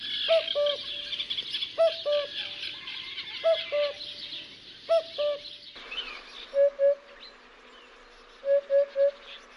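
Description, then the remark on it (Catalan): A common cuckoo calls its two-note "cuck-oo" four times at a steady pace, clear over a constant buzz of insects and other birds, before a hoopoe's soft triple hoots take over. “el primer que vindrà és el cucut, i el segon la puput.”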